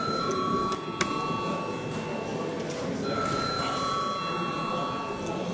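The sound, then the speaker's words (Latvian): A bell in the Saeima, Latvia's parliament, rings continuously for several seconds to call members to a vote, a steady, insistent electric tone with a faint background murmur. “Lūdzu zvanu.”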